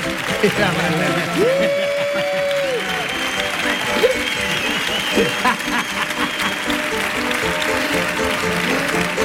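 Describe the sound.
An audience claps steadily throughout, a dense continuous patter, with a few whistles and scattered cheering voices rising over the applause, welcoming a professor about to give a talk on rap.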